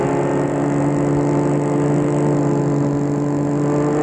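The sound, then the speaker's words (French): A steady car engine drone with an even, continuous hum and a low rumble throughout, no voices present, as the car drives along a small departmental road into the countryside near Versailles, France. “Et là, il va arrêter la voiture devant dans une petite rue où il n'y a que des petites maisons.”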